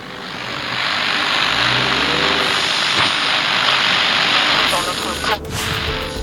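A car engine runs steadily, heard from inside the vehicle as two men sit silently in it, a continuous low rumble and broad hiss that holds an even, moderate loudness for the whole stretch.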